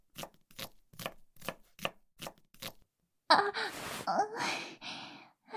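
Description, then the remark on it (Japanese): A kitchen knife chops food on a cutting board while someone cooks a meal, about eight crisp, evenly spaced strokes, then stops as a voice lets out breathy gasps and sighs. “包丁持ってるから危ないよ。”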